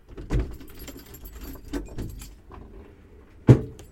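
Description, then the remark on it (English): Metallic clanks and rattles from a scrapyard right next to the building, heard through opened windows and doors, with a steady low rumble of machinery and one sharp, loud crash near the end. No one speaks. “I'm, as usual, just going to open the windows and doors because I've been recording with the windows and doors shut.”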